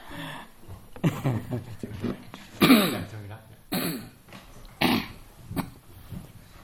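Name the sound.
coughing and throat clearing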